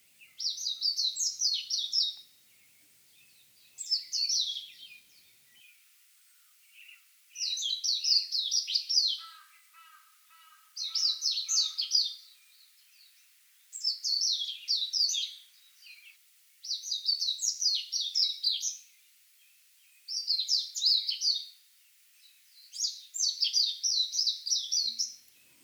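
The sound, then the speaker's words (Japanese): A Japanese white-eye sings a rapid, twittering, high-pitched song in repeated bursts of about two seconds, separated by short pauses, clear against a quiet background with a faint second bird briefly, early in the morning in Rikugien garden. “六義園で早朝、メジロが鳴いている場所を見つけました。”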